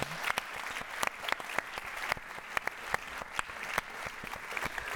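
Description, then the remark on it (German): Audience applause: many hands clapping in a dense, steady patter with sharp individual claps standing out, sustained at a moderate level without voices. “Also wir dürfen auf diese Podcast-Szene in Österreich wirklich stolz sein und einen kurzen Applaus dafür, die was heute da sind.”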